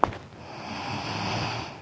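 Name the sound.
voice imitating snoring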